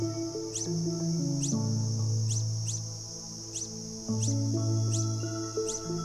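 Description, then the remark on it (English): A male long-billed hermit hummingbird, calling from his perch in a forest at the start of a courtship ritual to find a mate, gives a steady series of thin, high chirps, evenly spaced and repeated over and over, set against a sustained high hum and soft, low background music. “From his perch, he begins a courtship ritual that starts with a series of chirps.”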